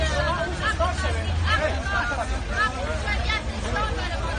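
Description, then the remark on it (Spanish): A crowd of Afghan women protesting for their rights shout slogans together in the streets of Kabul, crying that no force can ignore and silence women. Their raised, high-pitched voices overlap in a steady loud clamor over a low rumbling background. “Ellas gritan que ninguna fuerza puede ignorar y sofocar a las mujeres.”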